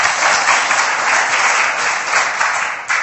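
An audience applauds steadily, many hands clapping in a dense, even wash of sound that stays loud throughout without pause, applauding championship winners for their victory and for representing the republic and the Russian Federation.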